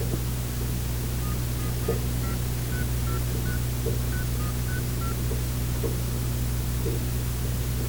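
A quick run of about ten touch-tone telephone dialing beeps as a radio host phones a caller during a live show, faint and evenly spaced, over a steady background of hum and hiss with no voices.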